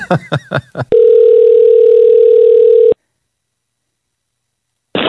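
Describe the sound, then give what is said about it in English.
A quick run of dialing beeps for a long phone number gives way to a loud, steady telephone dial tone that holds for about two seconds, followed by silence and then another short burst of tone. “Yeah, and we got another text that I have to call this person.”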